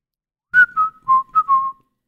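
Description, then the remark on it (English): A short whistled melody from a song, about five clear notes gently falling in pitch, heard alone with no talking, ending in a brief pause. “You could probably put that song in there too and it'd be fine. Any whistling, any whoas, you know, just anything that sounds like you're like folding laundry outside with an IPA in one hand, petting your dog with the other hand”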